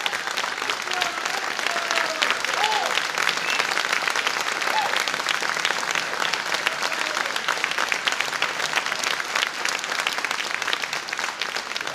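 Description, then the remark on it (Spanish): A large audience in an auditorium claps steadily and loudly for the whole stretch, a dense continuous wash of applause with faint voices murmuring underneath. “A ver, calentemos el ambiente con unos aplausos.”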